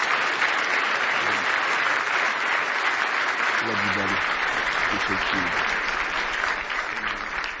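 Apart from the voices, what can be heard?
audience hand clapping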